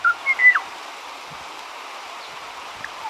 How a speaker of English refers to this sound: The poignant bell-like tones you're hearing belong to the Kauai o'o, a small forest bird once found on the Hawaiian island of Kauai. This recording was made in 1975 in the Alakai Wilderness